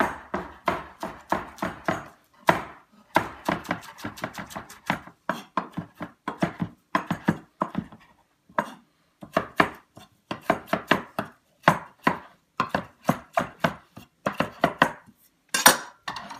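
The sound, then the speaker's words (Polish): A knife chops steadily on a cutting board, rapid bursts of sharp taps with brief pauses between runs, as mushrooms, lovage and a piece of leek are sliced. No one speaks. “I biorę się za krojenie.”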